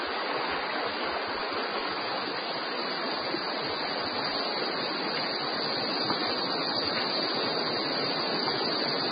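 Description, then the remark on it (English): An underground river rushes inside a cave in a steady, dense roar of churning water, loud and unbroken throughout, with no voices or other distinct sounds standing out. “A clue to the source of the guano can be heard above the noise of the river.”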